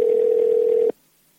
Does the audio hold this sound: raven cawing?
no